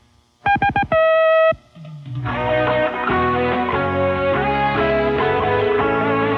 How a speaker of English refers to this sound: Check your clock. Here comes the 6 o'clock beep.